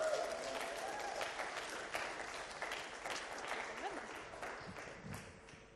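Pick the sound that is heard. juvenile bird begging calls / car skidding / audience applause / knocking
audience applause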